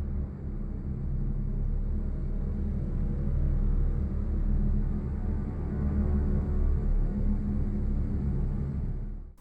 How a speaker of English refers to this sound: Okay, next up is the Drone.